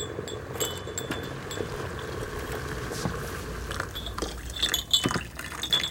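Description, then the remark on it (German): Freshly boiled water for woodruff tea trickles and splashes steadily into cups, with a few light ceramic clinks scattered through the pour and a brighter clatter toward the end; no one speaks. “Ich gieße uns ein.”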